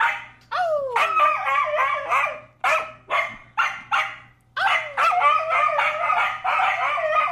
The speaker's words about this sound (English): Yeah, very vocal dog, for sure. Yeah. Can howl, can shriek. I think it sounded kind of like a beagle. No, beagles are deeper voiced.